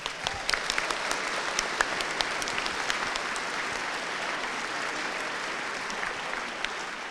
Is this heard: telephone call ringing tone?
no